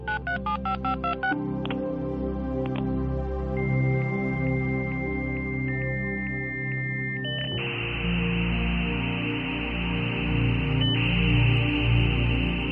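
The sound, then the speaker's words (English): A dial-up modem connecting to the World Wide Web over a home phone line: a quick burst of touch-tone dialing beeps, a few steady tones and chirps, then a loud, harsh hiss of screeching static that carries on to the end. “Logging into the World Wide Web, using your home phone through a dial-up modem.”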